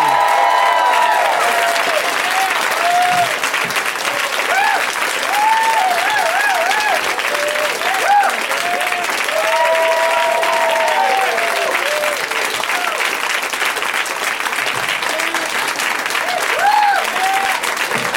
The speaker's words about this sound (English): I know that's all for me. I know I'm the one you're applauding for.